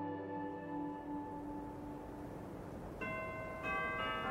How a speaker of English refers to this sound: At midnight, the bells of the old Trinity Church in Lower Manhattan exulted the full, rich chimes in a joyous peal. The sweet tones echoed throughout the dark and otherwise silent streets